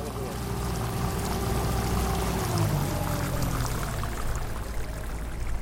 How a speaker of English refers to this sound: Find a place to hold on. I drive very slow. This is not a very long trip. It's an extremely short boat ride, but we don't want to go swimming on the way over there.